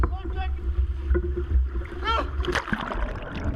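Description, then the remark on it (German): Water surges and splashes heavily around a small fishing boat that is suddenly filling with water, with a steady low rumble of waves and wind and a few brief shouted voices from the people aboard, who try to hold on, breaking through the churning noise. “Hier sehen wir ein kleines Fischerboot, das plötzlich mit Wasser voll lief und ein paar Sekunden später, wir sehen sie jetzt dann gleich, die haben noch probiert, sich irgendwo festzuhalten.”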